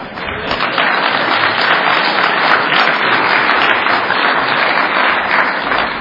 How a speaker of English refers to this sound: We always applaud all over the world, but we still allow AA to publish that piece of crap.